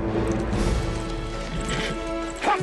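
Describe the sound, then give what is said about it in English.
Horse hooves clop steadily as a rider pivots his horse and rides away, the hoofbeats mixed into a dense, sustained background, with a sharper thud near the end. “pivots his horse. He rides away.”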